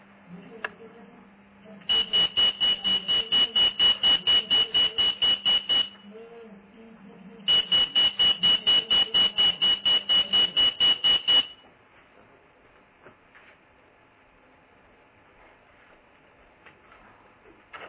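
Electric parliamentary bells ring loudly in two long bursts of rapid, evenly spaced strikes with a shrill metallic tone, separated by a short pause, followed by a faint background murmur.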